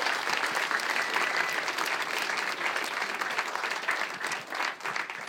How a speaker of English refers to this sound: Yeah, give him a big round of applause for that.